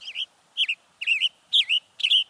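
A Western Tanager sings five short, burry, robin-like phrases in a steady, evenly spaced series, clear against a quiet background with no voices.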